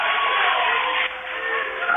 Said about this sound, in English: cheering on their team.